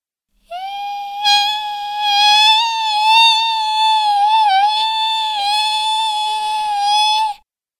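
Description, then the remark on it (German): A mosquito's thin, high-pitched whine drones steadily for about seven seconds over someone lying in bed, its pitch wavering slightly, with no other sounds around it. “Eine Mücke summt.”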